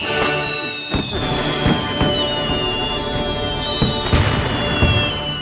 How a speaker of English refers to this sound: But Ben appeared to be stranded out by a load of fireworks there.